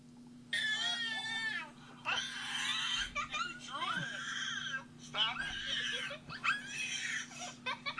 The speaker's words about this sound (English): She's just screaming in your face. And drooling on me. And drooling. And we were goofing around, so she made this noise and it made me laugh. So again, she's two.